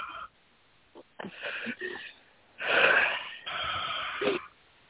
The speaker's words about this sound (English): Yeah. Breathing.